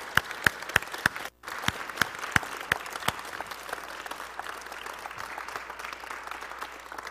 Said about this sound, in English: Let's give the Lord a big clap to them.